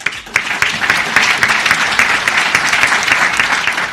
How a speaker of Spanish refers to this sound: Con un prolongado aplauso, el clero de Albacete despedía a su obispo, don Ángel.